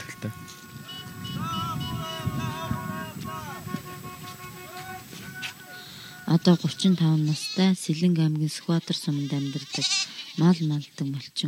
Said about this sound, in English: Naturally, every morning for me begins with the sound of sheep and other livestock. I wake up to this familiar sound for the fifth year now.